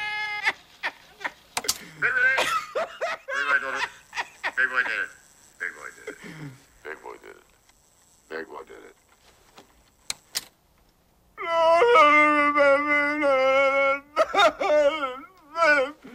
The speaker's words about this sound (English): Tracy pinches the spooled wire in the recorder, slowing down its speed.